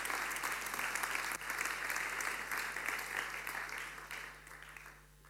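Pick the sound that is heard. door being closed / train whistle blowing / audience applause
audience applause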